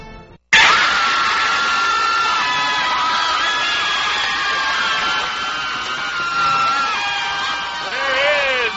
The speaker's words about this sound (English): There is the Argus cheer squad having a good time.